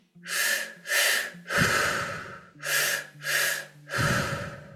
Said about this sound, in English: So this is our last 4 minutes of continuing the breathing pattern.